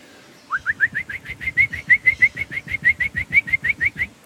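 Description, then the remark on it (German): A person imitates a black woodpecker's flight call: a fast, even series of about twenty short, rising, whistled notes, loud, lasting several seconds with no talking. “Ich könnte jetzt einen Schwarzspecht nachmachen, so einen typischen Ruf, während er fliegt.”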